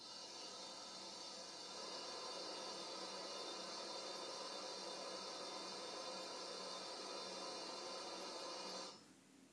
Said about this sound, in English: I think that was someone filling a kettle.